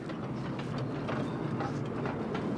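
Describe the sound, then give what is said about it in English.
A model train rolls steadily down a grade on a club-built layout, its cars rattling and clacking in a continuous stream of mechanical clatter as momentum takes over, with no talking. “And it's a little bit rough when that thing's coming down as the momentum starts taking over.”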